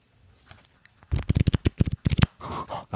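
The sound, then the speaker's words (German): Thick, cardboard-like paper trading cards flicked rapidly, a quick run of about a dozen sharp papery snaps, ending in a rougher scraping shuffle after a near-silent start. “Da klingen aber dann dick, also die sind ein bisschen pappiger, also haben schon dickes Papier, oder?”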